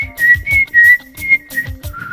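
A woman whistles a high, sustained tune in long, slightly wavering notes, fairly loud, over a steady low thumping beat that pulses about twice a second.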